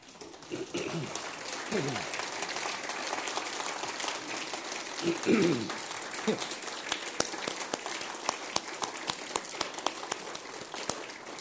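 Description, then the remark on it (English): A large audience applauds fathers and grandfathers standing to be honored, clapping steadily for about eleven seconds, a dense wash of clapping with a few scattered voices calling out early on, tapering to sparser claps at the end. “This morning, we want to invite all of our fathers and grandfathers, if you would, stand, if you would, and let's honor them with a round of applause.”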